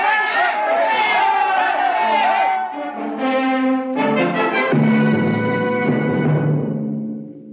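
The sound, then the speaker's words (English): A loud, dense mass of many voices yelling and shouting at once, continuous, with overlapping angry cries rising and falling throughout: an angry crowd chasing two people down a long steel corridor. “Rikard and Aelin ran down the long steel corridor with the crowd on their heels.”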